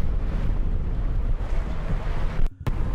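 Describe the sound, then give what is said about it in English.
Loud, steady wind buffeting a microphone outdoors on a boat, a constant low roar with a brief dropout near the end and no voices. “Because really all you hear is wind noise here.”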